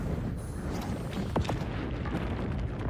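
A sudden gunshot blast cuts through a dense, rumbling wash of noise, with a couple of sharp cracks near the middle that barely rise above the steady loud din.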